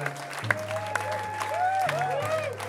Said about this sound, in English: applause, our friends.